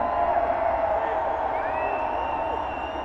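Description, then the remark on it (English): A big concert crowd roars continuously, a dense wash of many voices yelling, cheering and jeering at once as the seated section makes noise and gets booed, loud and sustained for the whole moment without letting up. “The seats, what the seats say, and make some noise, the seats.”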